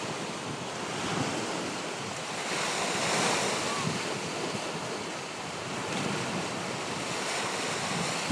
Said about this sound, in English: Coming to you from McLean State Park in here on Lake Superior. You can hear in the background the waves. I'll just be quiet for a minute so you can hear them a little better.